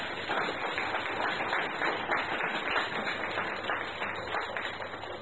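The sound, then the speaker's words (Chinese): An audience at a Christmas church service applauds to God steadily for about five seconds, a dense, even wash of many hands clapping at once with no voices rising above it. “你可不可以给掌声你的上帝呢？”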